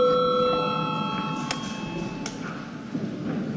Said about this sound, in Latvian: Paldies, lūdzu zvanu.